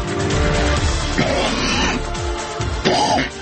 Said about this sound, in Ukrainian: Ось так починаємо ми сьогодні ефір. І це ви почули, як кашляю у студії програми «Ми разом».